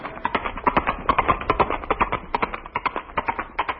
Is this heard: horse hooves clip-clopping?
yes